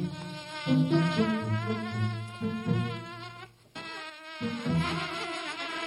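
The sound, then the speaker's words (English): Insects buzz loudly in a continuous drone whose pitch wavers and swoops, with a brief lull partway through before the buzzing surges back. “I go outside to try to enjoy the beautiful weather and the buzzing starts.”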